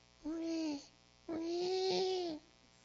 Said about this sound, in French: Un bébé? Mais où est-il?